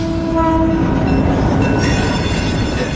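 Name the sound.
train speeding past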